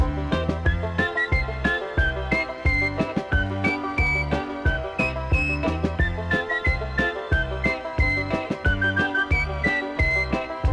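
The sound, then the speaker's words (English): A bright whistled melody rides over a busy, upbeat musical backing with steady rhythmic percussion, loud throughout, with no singing or talking. “Try to smurf it better, forget the stormy weather by whistling a happy song.”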